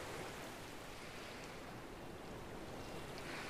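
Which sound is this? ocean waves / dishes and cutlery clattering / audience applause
ocean waves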